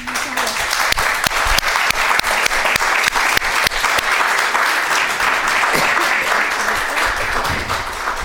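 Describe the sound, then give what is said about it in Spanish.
An audience claps warmly and continuously, a dense wash of many hands with sharper individual claps standing out, sustained at steady loudness throughout without voices, opening a poetry reading and conversation with the winner of Chile's Premio Iberoamericano de Poesía Pablo Neruda. “Quiero que iniciemos lo que va a ser una lectura y una conversación con un cálido aplauso.”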